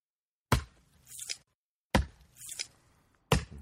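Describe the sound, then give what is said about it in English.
A knife chops through soft intestines and pancreas in three sharp, evenly spaced strikes, each followed by a brief wet, squishy rustle. No one speaks. “I'm going to have you guys cut the intestines and the pancreas up as well. All right. Here we go. Chopping away.”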